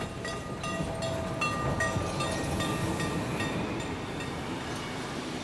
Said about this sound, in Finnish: Ja nyt Lahjankin seurue lehmineen saapuu junalla vihdoinkin Saloon